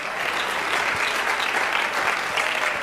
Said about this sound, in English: Clap your hands. Hallelujah.